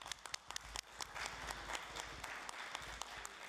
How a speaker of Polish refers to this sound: Panie marszałku, bardzo serdecznie witam. Oklaskami przyjmujemy pana.